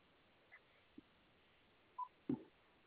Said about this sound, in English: Talk button, yeah. I've got a dial tone, yeah.